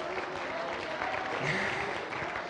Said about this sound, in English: Clap your hands again and praise the Lord.